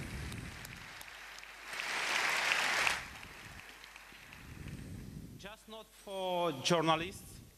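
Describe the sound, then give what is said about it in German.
A short burst of crowd applause for everyone who supports the SCADA Strangelove team, a dense patter of clapping that swells for about a second and fades. After a quiet pause, a voice begins speaking. “Also bitte Applaus für alle, die uns unterstützen.”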